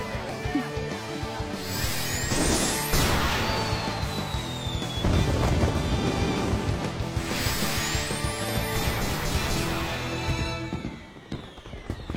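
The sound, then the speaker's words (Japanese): Fireworks burst repeatedly at a festival over a dense, continuous roar, with rising whistles shooting upward between the booming explosions and crackling pops filling the gaps, loud throughout with no voices. “そっか、花火か。”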